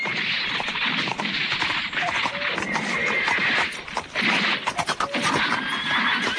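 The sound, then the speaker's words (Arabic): A very strong purebred Arabian horse neighs loudly and repeatedly while hooves clip-clop underneath, the whinnies dense and continuous with a brief lull near the end. “ما شاء الله، سبحان الله، حصان عربي أصيل.”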